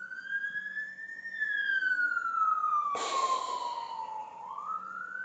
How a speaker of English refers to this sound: is that another one? A different siren.